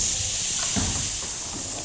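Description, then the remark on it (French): A steady, sharp hiss like a snake's, loud, holding evenly for about two seconds with faint low rumbling beneath it. “La montgolfière tombe sur un serpent.”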